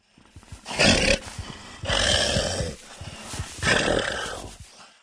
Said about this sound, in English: The werewolf groans and hunches over, bringing its paws to its face.